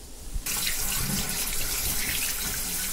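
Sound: water running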